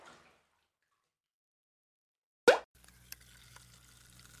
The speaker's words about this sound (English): I found something new at the market today. They infuse water with pure oxygen to make it bubbly. It's called seltzer.